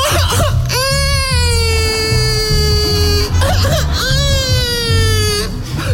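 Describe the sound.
A person convincingly imitates a crying baby: two long, loud, high-pitched wails, each rising then sliding down, separated by a short pause, over a low, steady rhythmic background.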